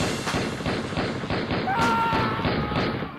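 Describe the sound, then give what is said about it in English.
A rapid burst of automatic gunfire sound effect, a dozen or so sharp shots in quick steady succession, loud, with a brief whining tone cutting through midway. “And no apologies for the gratuitous gunfire there.”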